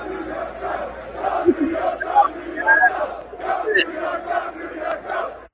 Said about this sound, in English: What were they saying? That is the entirety of the Long Island Railroad waiting for a train and celebrating the fact that they have something to do until they get on it.